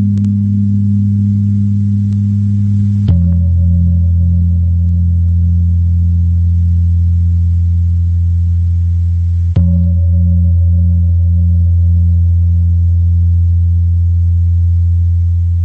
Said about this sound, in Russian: Прозвучала пара индонезийских гонгов из оркестра «Гамелан». Совершенно фантастический оркестр и совершенно фантастический вид музицирования для европейцев.